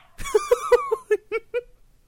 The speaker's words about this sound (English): Can you hear Pepper again? noisy little dog. Just briefly.